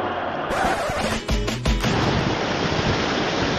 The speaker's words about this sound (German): Aufgepasst, hier kommt keine Laola-Welle. Hier kommt die perfekte Welle vom Atlantik. Ich bin im sündhaft schönen Cadiz.